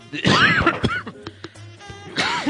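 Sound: cough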